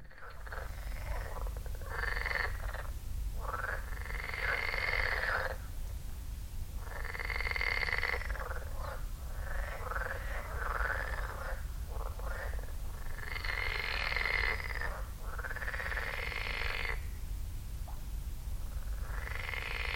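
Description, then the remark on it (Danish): Outdoor ambience by a lake in North Zealand, Denmark, recorded from a bench by the lake, dominated by a chorus of frogs croaking in repeated bursts, fairly loud, over a steady low rumble of wind or background noise, with no talking. “Optaget på en eddy roll, der står på en bænk ved søen.”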